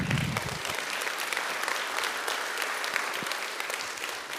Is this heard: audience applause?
yes